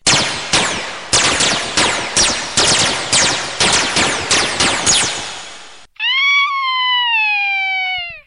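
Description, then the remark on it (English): A rapid volley of loud sci-fi laser blasts from the Grape of Death's ultimate laser beam blaster cannon, about a dozen sharp descending zaps in quick rhythm, then a sustained whining tone that slowly drops in pitch before cutting off. “It turns out to be a close match until the Grape of Death shouts, My combo scythe, radar, ultimate laser beam, blaster cannon, launcher of destruction will get you good!”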